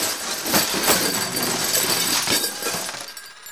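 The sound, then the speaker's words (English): A loud, sustained crash of a closet's contents tumbling out, a jumble of bangs, clatters and glassy clinks over about three seconds before it thins out. “7 closets crashing.”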